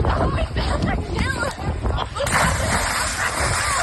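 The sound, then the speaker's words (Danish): A person dives into water with a heavy splash partway through, followed by a rush of churning, sloshing water. Indistinct voices and outdoor bustle carry on in the background. “Og det var to meget forskellige plask.”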